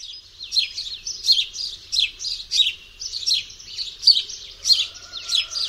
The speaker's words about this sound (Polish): U wróbla sylaby te co chwila skakały to w górę, to w dół, a więc kolejne ćwierknięcia wydawane były w nieco różniących się od siebie tonacjach. Posłuchajmy zatem wróbla.